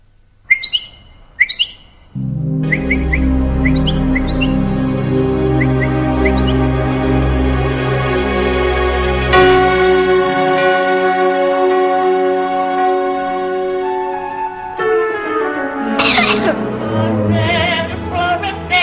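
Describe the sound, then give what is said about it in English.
A few sharp, close bird chirps ring out alone, then lighter tweeting trills carry on over a steady, swelling musical drone, with a busier flurry near the end. “Some birds have another ability, as well as all their other miraculous features. Learning. What a noise!”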